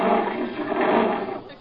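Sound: lion roaring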